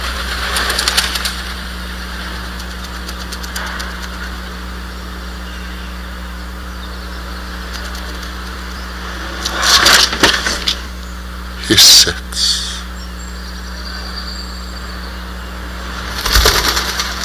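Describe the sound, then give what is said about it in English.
A pigeon suddenly bursts into flight with a few short, loud flurries of flapping wings, breaking an otherwise quiet scene with a steady low hum; a voice speaks briefly. “An erupting pigeon briefly interrupts otherwise silence.”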